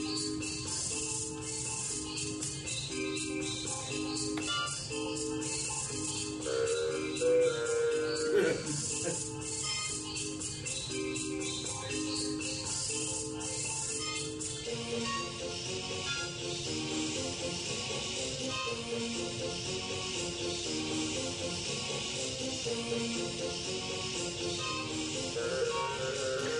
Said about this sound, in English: So this is the James Bond sound, obviously.